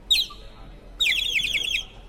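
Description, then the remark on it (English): A piccolo player plays a small whistle that imitates a bird call, as used in an orchestral composition: a short high trill, a pause, then a longer warbling run of rapid chirps, bright, with no talking. “plays a small whistle, used in one of the compositions to mimic the sound of a bird.”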